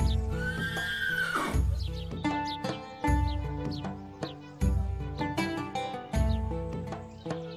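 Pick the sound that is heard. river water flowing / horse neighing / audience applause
horse neighing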